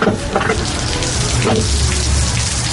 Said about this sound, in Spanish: Uf, vaya día de invierno que tenemos. No para de llover ni granizar.